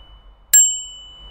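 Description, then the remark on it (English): A single bright ding of a bicycle bell, rung once during a safety check before cycling the Fallowfield Loop cycle path in Manchester, left to ring out, its clear metallic tone fading over about a second in otherwise quiet surroundings. “I've got a well-fitted helmet on, my brakes are working, and my bell, most importantly, is loud and clear.”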